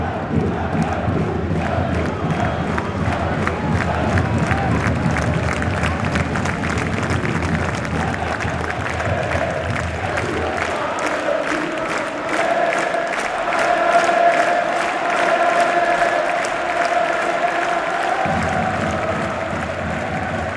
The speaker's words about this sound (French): En fait, ça arrive tellement peu souvent d'être tous aussi contents pour la même chose. 10 000 personnes qui se lèvent d'un coup, qui hurlent, mais ça, c'est... Ça donne un peu foi en l'humanité.